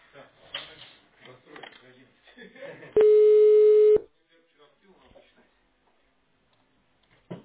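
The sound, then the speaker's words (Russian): A single loud, steady telephone ringback tone sounds for about a second after a stretch of talking, as a callback is connected to a customer, followed by near silence as the call connects. “Обратный звонок. Соединяем с клиентом.”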